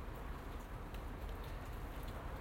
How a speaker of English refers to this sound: Aha. Here cometh the rain. Seriously now.